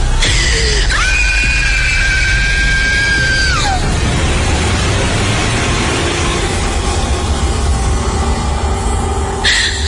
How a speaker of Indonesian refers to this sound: Ketika itu aku langsung berteriak dan lari keluar kamar. Teriakanku sampai membangunkan keluargaku yang lain.